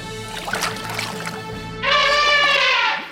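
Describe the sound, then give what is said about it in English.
A single loud, brassy elephant trumpet blares for about a second, harsh, following a stretch of soft rustling, splashy background noise. “Elephant.”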